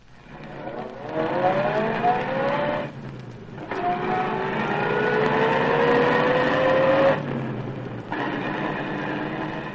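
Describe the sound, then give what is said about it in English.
Captain Mercer's car revs up and pulls away, its engine whine climbing in pitch through several gear changes with brief dips between. Steady and fairly loud, with no voices. “Anyway, pretty soon Captain Mercer came down and we got into his car.”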